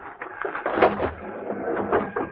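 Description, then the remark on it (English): A series of heavy, uneven thuds pounding on the door of a railroad baggage car at a depot, struck from the side away from the platform, a handful of blows in quick irregular succession with brief pauses between them, no voices. “As soon as the crowd left the depot, we walked down to the car, crawled under it, and pounded on the door on the other side.”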